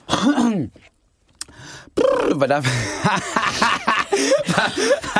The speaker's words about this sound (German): Aber vorher muss ich husten.